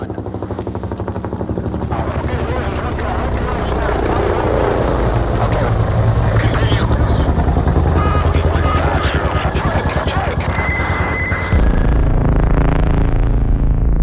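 A helicopter roars, its rotor thumping steadily in a dense, continuous drone that stays loud the whole time, with a slight surge near the end; the helicopter is flying on a mission in Afghanistan in June 2012.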